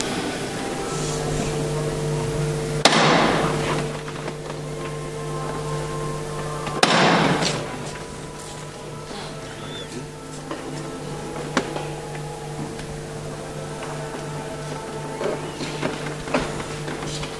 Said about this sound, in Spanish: Cruje la madera, rotundo golpe de martillo, y alejado, ya subiendo la rampa que le va a llevar a la calle, el capataz de la hermandad de la corona.